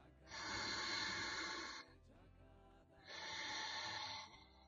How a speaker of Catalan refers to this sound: Sospirem, badallem. Respirem.